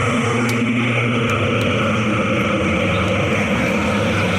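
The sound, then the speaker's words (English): A low, ominous droning hum, said to come from the ancient cursed amulet of Kauhoptep, fills the whole stretch, steady and loud with a rumbling, engine-like body and no voices, only a few faint high clicks flickering over it. “Sometimes the cursed amulet drones like that when it's not pleased with me.”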